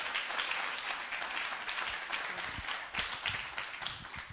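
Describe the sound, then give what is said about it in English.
An audience applauds steadily, a dense wash of many hands clapping at an even level for a few seconds, with no talking over it. “So I'd like her to come up and share this testimony. Round of applause.”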